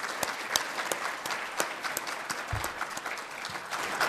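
A room full of people claps steadily, dense overlapping applause with sharp individual claps standing out, moderately loud and sustained throughout without any talking.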